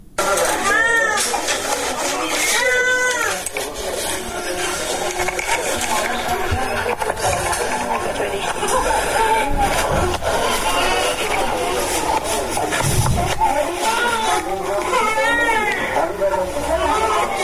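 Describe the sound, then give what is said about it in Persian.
Newborn babies in a hospital wail from hunger in thin, rising and falling cries, several overlapping bursts, against a steady, crowded background murmur that never lets up. “نوزادانی که از گرسنگی ناله می کنند و به جای آغوش مادر به بستر شفاخانه رفتند.”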